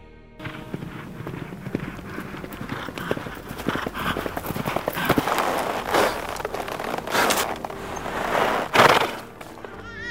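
Rapid horse hooves clip-clop in a quick, steady gallop, growing louder as the horse draws closer, ending in a brief burst of heavier thuds.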